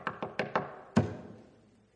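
Five knocks on a hollow wooden pulpit: four quick, evenly spaced raps, a short pause, then one harder knock that rings out and fades. The sound is clear, with no voices.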